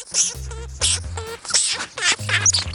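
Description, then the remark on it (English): A lemming gives a run of harsh, squeaky chattering calls in about four quick bursts, each buzzy and strident with a nasal edge, loud and alone with no talking. “That's the sound of an actual lemming, and they hang out in the grassy tundra of the Arctic, a harsh landscape that's covered in snow for most of the year.”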